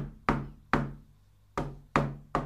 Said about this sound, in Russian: И вдруг он слышит посреди ночи, что кто-то стучится в дверь.